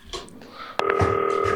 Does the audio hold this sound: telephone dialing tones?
yes